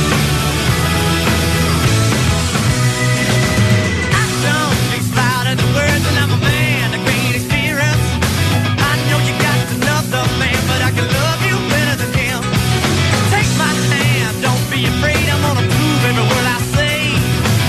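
A rock song plays loud and steady throughout, with driving drums, electric guitars and a dense full-band sound that never lets up.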